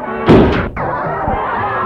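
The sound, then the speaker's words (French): A door swings shut with a single heavy thud, followed by a steady low background hum that carries on after the impact. “La porte se referme.”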